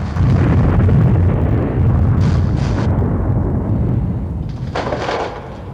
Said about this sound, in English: Ives steps into the captain's study to look at the tide gauge. He stands back against the wall as the room is rocked by a tremor.